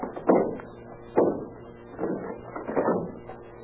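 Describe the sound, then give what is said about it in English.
A locked bathroom door, locked from the inside, is being broken down with a series of heavy, dull thuds, four blows spaced roughly a second apart, each with a short wooden rattle. No voices are heard. “Well, we'll have to break it down, I guess.”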